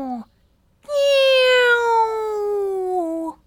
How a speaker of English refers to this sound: Meow.